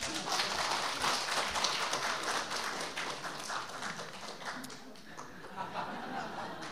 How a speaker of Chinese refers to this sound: 好，今天我们非常荣幸邀请到2000年前的巴迪买来到我们当中，你们掌声鼓励一下吧。